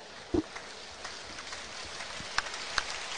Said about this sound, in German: Und es gibt Applaus natürlich für den Raul Petretta.